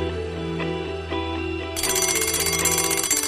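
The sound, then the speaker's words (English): An alarm clock bursts into loud, continuous metallic ringing, a rapid buzzing bell that follows a stretch of steady, sustained low tones, which keep humming underneath. “We are all dreaming, and the alarm clock rings.”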